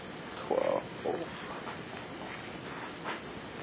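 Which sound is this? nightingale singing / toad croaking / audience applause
toad croaking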